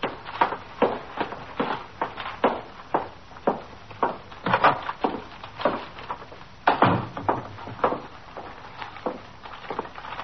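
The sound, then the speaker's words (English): Footsteps of a man carrying a paper bag walk at a steady pace through the front door of a police station house, through the back room and up the stairs to the 21st Detective Squad, a long run of firm, regular thuds that sound woody, with no voices, just the repeated clatter of shoes climbing. “Carrying a paper bag, he walked in the front door of the station house, through the back room, and up the stairs to the 21st Detective Squad.”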